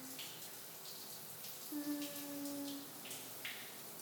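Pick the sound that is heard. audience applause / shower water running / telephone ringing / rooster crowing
shower water running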